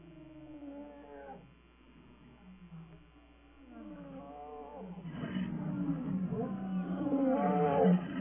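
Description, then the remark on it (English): Deep, rumbling African lion roars repeat in a series of long grunting calls, building louder and more layered toward the end as several animals seem to join in, powerful. “I want you to hear what African lions sound like.”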